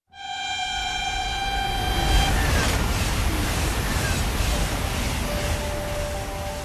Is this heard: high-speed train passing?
yes